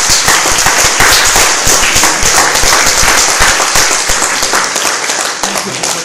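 Loud, sustained audience applause, a dense crackle of many hands clapping at once that holds steady for several seconds before easing slightly toward the end.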